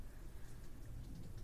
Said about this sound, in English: Because of the rain? It's raining?